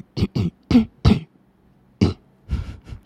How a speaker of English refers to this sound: I need to open up that throat chakra a little bit more as I clear my throat. Let me clear my throat.